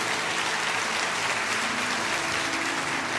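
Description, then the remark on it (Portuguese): An audience at a church worship service applauds the Lord Jesus steadily, a dense, even wash of many hands clapping at once with no pauses, loud and unbroken throughout. “Aplauda ao Senhor Jesus.”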